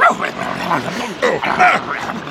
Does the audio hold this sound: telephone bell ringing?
no